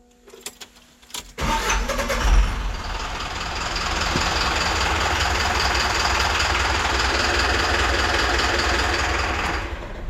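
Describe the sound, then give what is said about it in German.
A few faint clicks, then a bus engine turns over and settles into a loud, steady rumble that runs without a break for several seconds before cutting off. No one speaks. “Klar, das war ein Bus.”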